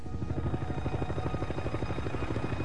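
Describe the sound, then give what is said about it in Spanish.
A Navy helicopter flies by, arriving quickly at the site of an accident, its rotor blades chopping in a steady, rapid thumping rhythm over a continuous loud engine drone, with no voices. “llega rápidamente al lugar del accidente en un helicóptero de la Marina.”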